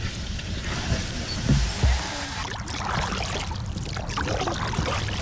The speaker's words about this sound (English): people zip up their red life jackets and load into the kayaks. All right, let's get on the river.